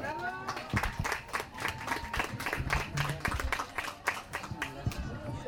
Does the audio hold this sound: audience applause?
yes